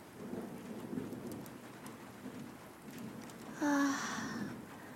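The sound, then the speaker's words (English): Steady rain patters on a roof, a soft continuous hiss of drops with a low rumble underneath; near the end a brief brighter tone rises over the rainfall before fading back. “The subtle sound of raindrops hitting on the roof just makes everything better.”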